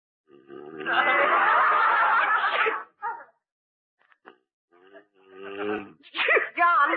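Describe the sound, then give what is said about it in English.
A loud, drawn-out sneeze bursts out, followed by a short pause, a few small noises, and then a person's voice speaking. “Gesundheit.”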